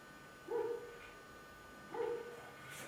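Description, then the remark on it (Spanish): A small dog whimpers twice, two short, high whining cries about a second and a half apart, fairly soft against a quiet indoor background with no talking. “Mira, el perrito se queja.”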